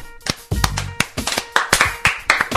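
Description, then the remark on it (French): Someone claps their hands about a dozen times in a slightly uneven rhythm, each clap a sharp, loud, crisp smack, with no voices. “À vous deux, je vous applaudis.”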